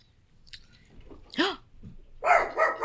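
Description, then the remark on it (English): A dog in a house barks a few times after strong wind hits the house, with sharp, loud yelps spaced irregularly, quieter snuffling and mouth noises between them, and no talking. “The wind just was like really crazy on this house and then just started barking.”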